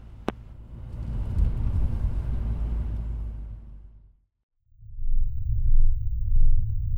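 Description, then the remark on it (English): A car drives in heavy traffic with a low, steady engine rumble and a broad whoosh of passing road noise, a sharp click near the start, a brief drop to silence, then the rumble returns. “Traffic's a little heavy, Dad.”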